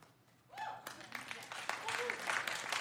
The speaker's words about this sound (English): I'm not sure that was worth applauding.